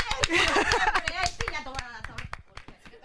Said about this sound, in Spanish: Un aplauso para ella.